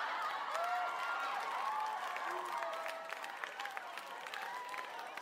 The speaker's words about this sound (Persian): هنگامی که دانش آموزان می‌خواستند از صحنه مسابقه خارج شوند، سر و صدا و هیاهوی تشویق بلند شد.